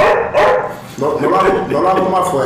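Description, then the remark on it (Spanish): A slightly hoarse person's voice imitates a small dog barking, giving a short yip followed by a run of higher, whiny yaps, fairly loud with no other sounds around it. “Bueno, hay un sonidito original que es como un perrito real.”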